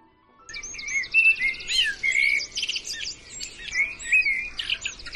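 Several birds sing and chirp continuously outside an open window at daybreak, overlapping bright trills and tweets, with a faint low outdoor hum underneath and no voices.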